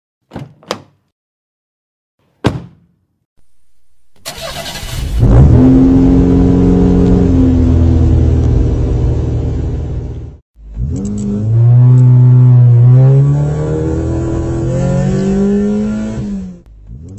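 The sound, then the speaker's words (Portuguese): Two sharp door thuds, then a car engine cranks and starts, its steady drone rising in pitch as it pulls away, dipping briefly at a gear change before accelerating again. No voices. “Ok, vocês dois se juntam, você entra no carro do Jason, ele dá a partida, e vocês começam a se dirigir pro local.”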